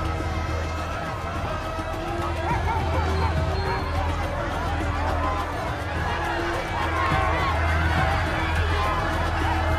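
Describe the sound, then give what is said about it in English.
A frantic crowd awaiting an approaching truck shouts and clamors continuously, waving for food and aid, many voices overlapping with running footsteps, while a steady low engine rumble, like an idling truck, underlies the commotion throughout. “Then a crowd of people appear and are evidently awaiting an approaching truck, waving their hands desperately to retrieve food and aid.”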